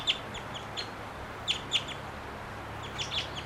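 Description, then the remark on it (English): A wild bird of unknown species, unseen up in the high treetops, gives a series of short, high chirping calls in irregular bursts, some doubled, over a faint steady background hum with no talking. “Wild bird. Not sure which one this is. Don't see it. Up in the high treetops.”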